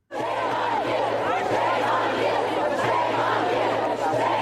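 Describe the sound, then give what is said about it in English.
A large crowd of students, survivors of the Parkland school shooting, shouts and chants "shame on you" at a rally in Tallahassee, Florida, calling for stricter gun control, in a dense, continuous roar, steady and loud throughout with overlapping yells rising above the din. “Students shouting, shame on you.”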